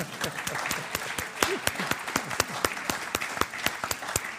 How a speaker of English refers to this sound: because he's a Philadelphian, so we got to applaud that.